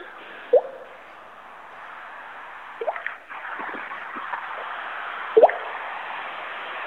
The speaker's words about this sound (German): Ich glaube, hier tropft etwas.